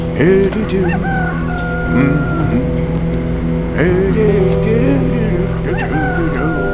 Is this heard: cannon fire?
no